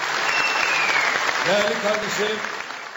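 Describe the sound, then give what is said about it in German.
Sustained standing-ovation applause from a full plenary and packed public galleries in an assembly hall, dense and steady, with cheering voices rising over the clapping partway through; a three-minute ovation for sharp words from Ankara against Israel. “Langer Applaus für die sehr scharfen Worte aus Ankara gegen Israel.”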